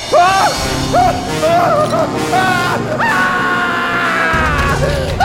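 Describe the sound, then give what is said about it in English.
Loud, anguished screaming in several wavering, rising-and-falling cries, ending in one long drawn-out wail over a dense, rumbling background, with no talking, coming from outside a circle of wagons. “The scream came from outside the circle of wagons.”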